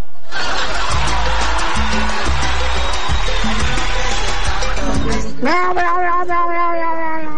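Loud, busy music with a steady beat plays, then cuts off and a single drawn-out cat meow follows, clear, holding its pitch for a couple of seconds.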